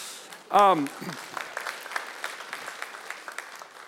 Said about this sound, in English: yeah, you can clap. That's fine. That's good.